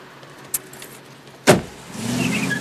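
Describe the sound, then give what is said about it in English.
A car door slams shut with a sharp, solid thud, preceded by a faint click of the handle, followed by a low steady rumble as the engine idles inside the car. “He pulls the car door shut.”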